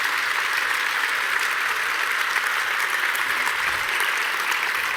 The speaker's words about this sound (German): Ja, außerdem gibt es ganz viele Leute, die seit Wochen hier sind in den Hallen und den Kongress aufbauen, freiwillig, ohne Bezahlung. Genau, das hat auf jeden Fall den Applaus verdient.